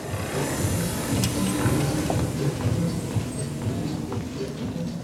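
A power wheelchair zooms across the wood floor of a dance studio during a dance workshop in Phoenix, whirring and rumbling steadily, a continuous low mechanical drone with faint scattered clicks and thumps, holding an even loudness throughout.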